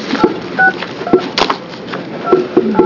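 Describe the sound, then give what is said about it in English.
A string of short touch-tone beeps as a phone number is keyed in to reach a witness in Grants Pass who will testify by phone at a committee hearing, irregularly spaced button presses sounding clearly over a faint background hiss, with no one talking. “And we're going to start trying to get Dr. Fogg on the phone.”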